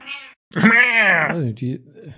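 A female cat named Juna meows several times: a short high call, then a long, loud, drawn-out meow that bends downward in pitch, followed by a brief chirping mew, with no other sounds.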